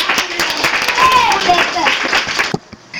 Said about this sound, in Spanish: Buenos días y bienvenidos. Un aplauso.